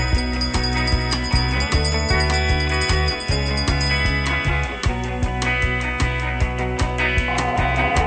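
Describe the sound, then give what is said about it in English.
A bell rings repeatedly over a steady, dense musical backdrop with a pulsing low beat, bright tinkling tones sounding loud throughout, with no talking. “Wizards and witches, wherever you dwell, give us a hint by ringing a bell.”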